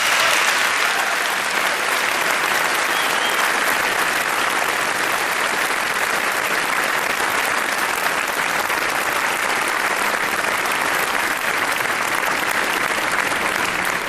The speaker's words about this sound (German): Dann danke nochmal für diesen großartigen Talk an Christine und an Kubi und bitte nochmal einen großen Applaus für Sie.